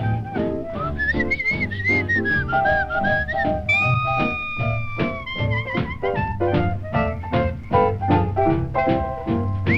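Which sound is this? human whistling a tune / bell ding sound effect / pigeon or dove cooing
human whistling a tune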